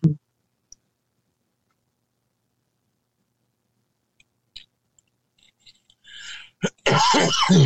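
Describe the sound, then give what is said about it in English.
A person coughs and clears their throat, starting with a few small clicks and scattered throat noises, then building to a harsh, louder cough burst at the end. “I'm really having a coughing problem here.”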